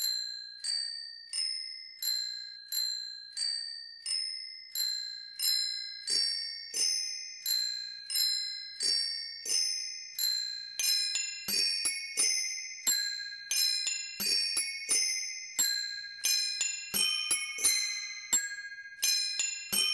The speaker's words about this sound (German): Das Pippi Langstrumpf-Lied und ein paar Stücke hat unser Doremikro-Fahrradklingelorchester noch drauf